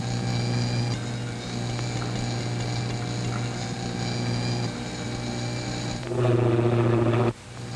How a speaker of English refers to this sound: Now it's at its peak. The plane should be practically overhead.